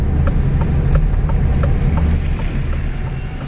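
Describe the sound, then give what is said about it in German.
The motor of a battery-electric truck, just started by its driver, hums with a steady, loud, low rumble, holding evenly throughout with faint ticking overtones and no voices. “Nur ein Summen ist zu hören. Vor 2 Wochen ist sie umgestiegen, vom Diesel auf Elektro.”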